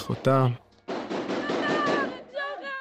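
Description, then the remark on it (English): Bursts of gunfire heard over a phone call, a sharp crack followed by a long dense stretch of rapid shots, with a woman's voice crying out in between that she is hit, muffled and distorted. “I hear gunfire.”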